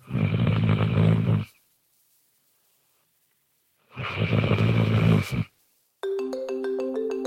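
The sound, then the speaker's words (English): Matilda, a Lexington therapy dog trained never to bark, makes an unusual low, rumbling groan-like vocal sound twice, each lasting about a second and a half with a pause between, before a bright tonal melody starts. “Train never to bark, we did catch her making this sound.”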